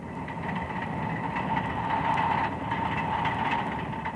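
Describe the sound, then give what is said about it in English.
A steady mechanical rumble of an Autocarril, a small rail vehicle with a limousine body on a small locomotive chassis, a cow catcher and steel wheels, running along the track toward Oruro, with a constant engine drone and faint rhythmic clatter, unbroken throughout. “The Autocarril has the body of a limousine and the chassis of a small locomotive, with a cow catcher and steel wheels.”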